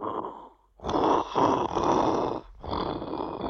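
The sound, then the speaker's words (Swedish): The dragon in a Bamse story, standing outside Grandma's house and wanting more meatballs, bellows loudly in long, rumbling, growling roars, about three drawn-out bursts separated by short breaks, with no talking over it. “Och snart står draken utanför hennes hus igen och bölar efter fler köttbullar.”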